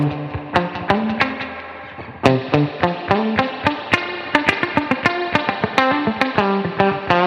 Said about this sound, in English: UAD actually gave me a couple pedals that I really like. This golden reverberator is sick. It's a nice spring reverb sound that I have that just kind of does the whole.